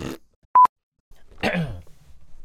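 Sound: burp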